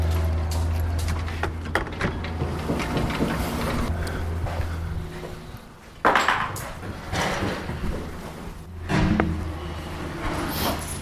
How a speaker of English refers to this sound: The heavy padlock is coming off the door.